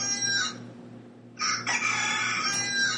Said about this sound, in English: Okay, girls, give us some clucking. Come on, girls.